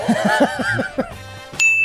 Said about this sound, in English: Hit the bell.